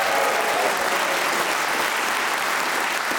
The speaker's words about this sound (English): Let's also introduce you to the four wonderful, talented people who are going to play Just a Minute this week. They are Paul Merton, Pippa Evans, Susie Ruffle and Tony Hawks. Please whoop and cheer for all of them.